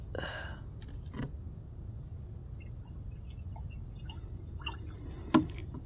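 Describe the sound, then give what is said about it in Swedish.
Water pours briefly into a glass, followed by a few soft drips and small clinks over a low, steady room hum, then one sharper clink near the end. No one speaks. “Skulle man kunna få lite vatten?”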